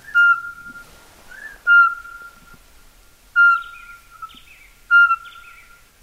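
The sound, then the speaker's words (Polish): Birds sing with four loud, clear whistled phrases at a steady mid pitch, spaced about a second or more apart, some followed by higher warbling trills. No one speaks. “chyba tu suweczek nie ma, bo ptaki w dobre sobie śpiewają dalej.”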